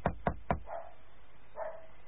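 A small dog gives three sharp, rapid yaps, then two softer, drawn-out whining barks after a pause, without any talking.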